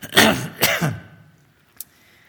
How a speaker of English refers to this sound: Excuse me. I never know what to do when you need a cough and you've got this thing here.